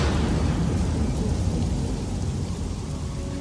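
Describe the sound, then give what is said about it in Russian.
Heavy rain pours down steadily with a deep, continuous rumble of thunder underneath, loud throughout, with no voices. “в сей день разверзлись все источники великой бездны, и окна небесные отворились, и лился на землю дождь 40 дней и 40 ночей.”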